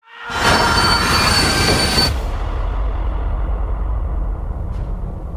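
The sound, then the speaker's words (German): A moving train in a Hercule Poirot murder mystery rumbles along loudly with a piercing metallic wheel squeal for the first couple of seconds, then settles into a steady low rolling roar on the rails, with no one speaking. “Wenn in einem fahrenden Zug jemand ermordet wird, dann sollte es doch nicht allzu schwierig sein, den Mörder zu finden, oder?”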